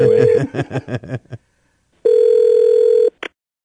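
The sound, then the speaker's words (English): A steady telephone dial tone breaks into a quick run of about seven dialing tones as someone phones football coach Tom Coughlin, then after a short silence a second sustained tone plays for a second before a brief final blip. “I think we should call him and talk to him about it.”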